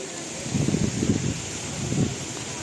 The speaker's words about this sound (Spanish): La de la lluvia que dejó imágenes como la del Guadalquivir completamente desbordado hace justo una semana. Nelson dejó lluvias de hasta 100 litros por metro cuadrado en muchas zonas de la península, más del triple de lo normal para esos días del año